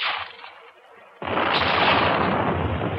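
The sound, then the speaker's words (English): A sea mine, shot by gunfire, explodes with a sudden loud, booming blast that swells into a sustained, heavy roar, preceded by a softer stretch of rushing, crackling noise. “Nice shooting back there. Well, there's one mine that won't do any more damage.”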